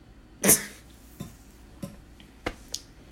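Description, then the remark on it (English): A small dog makes short, abrupt noises: one loud snort-like burst, followed by several fainter, scattered huffs over the next few seconds, with no talking. “Dogs will be dogs.”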